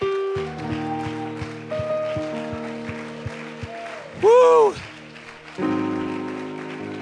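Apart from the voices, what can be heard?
audience clapping hands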